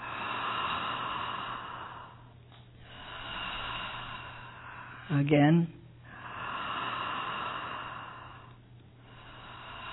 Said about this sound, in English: Put your things down for a moment and just breathe deeply three times. Big belly breath.